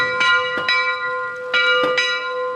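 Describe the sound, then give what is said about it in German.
The bronze storm bell of the collegiate church tower in Neustadt an der Weinstraße, mounted in a rig on the cobblestones, struck repeatedly at a steady, slightly uneven pace, each sharp clang blooming into a long, shimmering hum of overtones that rings on between strikes, fairly loud. “So klingt sie, die Bronzeglocke, als sie angeschlagen wird.”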